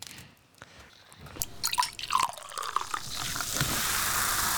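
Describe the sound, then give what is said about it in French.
Water being poured, starting with a few scattered drips and splashes that build into a steady, continuous pour filling the last seconds, with no voices. “Effectivement, c'est de l'eau qu'on verse.”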